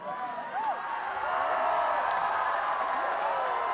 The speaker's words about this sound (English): but that cheer, I mean, I have no earplug in my right ear, that cheer was louder than the snare. That was pretty intense.